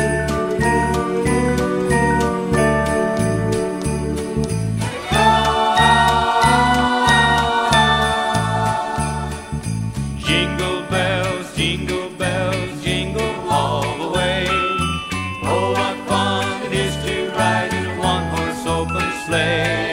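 A lively instrumental Christmas tune with sleigh bells jingling brightly over a steady, bouncy bass beat, loud and full throughout with no singing.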